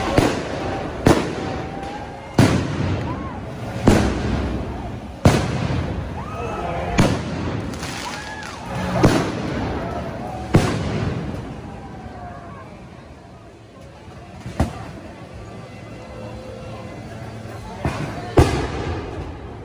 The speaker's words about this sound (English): I mean, fireworks are great, folks, when you watch them from a long distance, like you do on the 4th of July, and they are safe. When you throw those mortars and fireworks at people and at buildings, they are very dangerous.